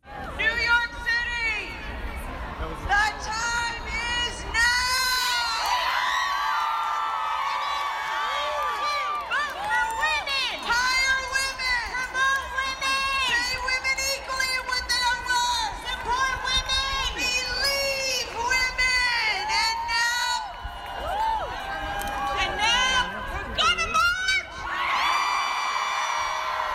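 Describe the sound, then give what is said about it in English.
A large crowd at the start of a street march in the cold, with dense overlapping voices, shouts and whoops rising over a steady, loud hubbub of chatter throughout. “Then the march started.”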